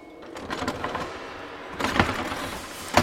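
The handles of three locked doors are tried and rattled against their locks, a few sharp metallic clunks and jiggles, with the loudest jolts near the end, without any voices.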